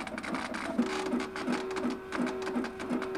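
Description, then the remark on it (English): A printer prints out a graphic image, its mechanism clicking and thumping in an even repeating rhythm about three times a second over a constant whirring hum, with no voices. “And if I have to print this image out, let's say the customer were to order 30 copies of the same image, it's just a matter of going to my machine and pressing that, you know, that cue, that print cue.”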